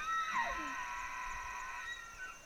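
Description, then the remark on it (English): A single high, whistling elk bugle, mostly a warning call, rises into a sustained, reedy squeal with a sliding drop, holding for about two seconds over faint outdoor background noise, at the Elk Country Visitor Center in Benezet, Pennsylvania. “It's either called a bugle or a bark.”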